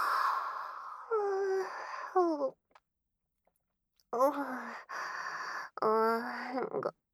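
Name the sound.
yawn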